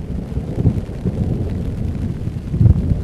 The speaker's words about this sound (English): All right, so I want to continue this conversation, but it looks like this storm really is going to be picking up here. So can we get under cover?